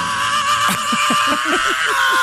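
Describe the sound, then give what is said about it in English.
A rock singer lets out a long, raw, sustained scream over a loud, distorted band, while rhythmic low notes pulse underneath for about two seconds, from a CD collection of rock and roll screams. “This time we bring you the most outrageous screams in the history of rock and roll.”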